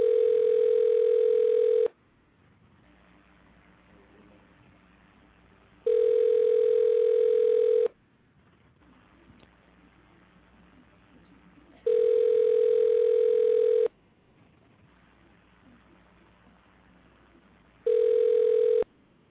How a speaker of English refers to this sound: See if I can get a one ringy dingy. Okay, we got dial tone. We got a ring.